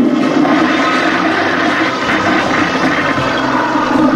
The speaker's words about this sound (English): Hey, somebody's coming. You open the window. I'll flush.